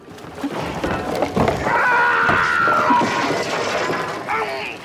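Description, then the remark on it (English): A loud, drawn-out scream from a scary movie rises over a dense, chaotic background of crashing and crunching noise, holding strong for a second or two before breaking off into the clatter. “You have scary ones, like Captain Quint from Jaws.”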